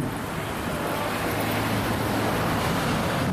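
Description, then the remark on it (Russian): A steady, dense roar of stormy surf in a fierce wind, a continuous wash of breaking waves and heavy spray filling the air with droplets, with no distinct individual crashes and no voices. “Я вынужден был вот с того места отойти, потому что там брызги такие, что даже когда вроде и волны нет, то в воздухе очень много капелек.”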